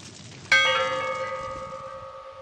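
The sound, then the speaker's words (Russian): A single loud church bell strike rings out and then hums with a long, slowly fading tone, the resonance lingering over a faint background hiss. “Звон колоколов.”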